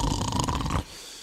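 A loud, rough, thick snore from a music record rattles for most of a second, then cuts off abruptly into quiet background hiss.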